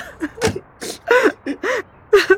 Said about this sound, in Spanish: ¿Y por qué tú estás llorando? Es un reflejo, es como el bostezo. Siempre lloro cuando veo a otra gente llorar.